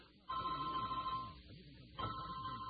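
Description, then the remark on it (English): A cell phone rings with an electronic tone in two bursts, about a second long and then again after a short pause, clear over a low background. “I left my cell phone on and all my crazed behavior.”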